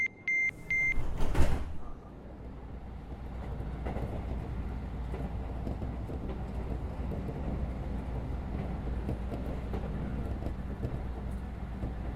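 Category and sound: vehicle, train departing station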